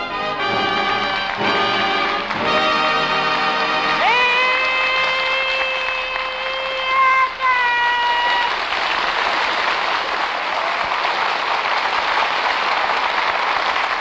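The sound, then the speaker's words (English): A short brassy orchestral fanfare with held chords from an orchestra, opening the Abbott and Costello Show in Hollywood, gives way to a loud wash of audience applause, cheering and yelling for Bud Abbott and Lou Costello that continues steadily to the end. “All right, stop all that yelling.”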